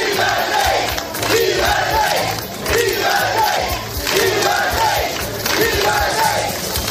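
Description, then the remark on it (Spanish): A large crowd cheers and applauds loudly and continuously, its roar swelling in rhythmic, chant-like waves about every second and a half, with no talking over it, welcoming the emeritus king Juan Carlos at a tribute at the Real Club Náutico de Sanjenjo. “El emérito ha recibido un homenaje en el Real Club Náutico de Sanjenjo y allí le han recibido entre aplausos y vítores.”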